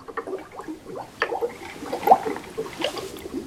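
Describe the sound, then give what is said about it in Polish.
Continuous bubbling water, like an aquarium, a masking sound played by an in-ear hearing device for tinnitus, with irregular gurgles and pops layered over a steady liquid wash, moderately loud, no voices. “Ja poproszę o bąbelki.”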